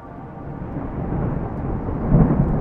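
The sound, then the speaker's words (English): Deep, rolling thunder rumbles steadily beneath a dense wash of heavy rain, growing louder and swelling to a booming peak near the end, with no voices. “A fresh crack of lightning scorched the sky, and the heavens opened. Rain lashed against the thick glass of Harper's viewport.”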